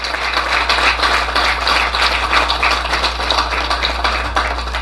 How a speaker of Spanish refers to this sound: Un aplauso por este gran comienzo.